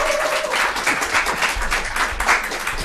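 A crowd applauds with dense, steady clapping that fills the whole stretch, loud, with a faint tone briefly audible near the start.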